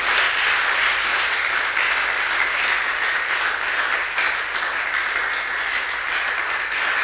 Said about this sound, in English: Oh, continue clapping. Nobody asks you to stop. You are clapping to your girl.